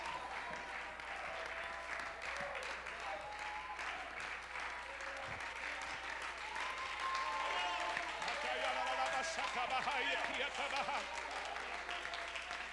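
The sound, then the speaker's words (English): An audience stands and claps hands in worship, giving glory to God, in a dense, continuous wash of applause, with raised voices calling and singing over it; the clapping stays steady and grows slightly louder in the second half. “Oh God, could you please let us be in unity one time where everybody stands and gives glory to God and claps their hands and worships the Lord.”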